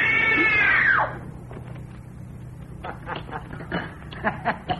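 A woman doing a scream test on direction lets out one loud, shrill scream of terror lasting about a second, then it cuts off, leaving a low steady hum and faint scattered sounds.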